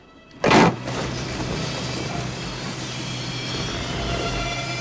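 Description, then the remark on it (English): Garage doors start with a sharp clunk, then a steady mechanical rumble and low motor hum as they roll upward, opening onto about 6 feet of snow, continuing evenly to the end with no voices. “As the garage doors lift, Laura's path is blocked by about 6 feet of snow.”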